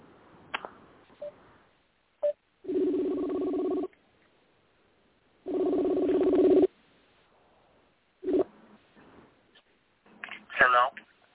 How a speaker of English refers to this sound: Let me see if I can get his number. I'm trying to call him on the church phone.